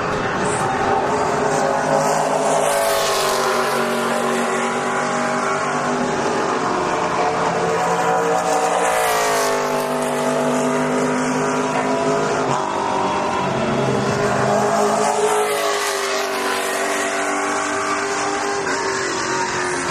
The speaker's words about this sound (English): These are the NASCAR-type cars out there for qualifying. Very noisy. We're in a different section, close to the pits.